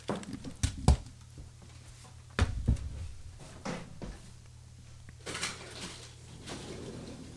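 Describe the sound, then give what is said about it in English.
A window is opened, with a few sharp clunks and knocks, then a longer sliding rattle of the frame, over a steady low hum; no one speaks. “I'm just going to open the window because I'm freaking boiling.”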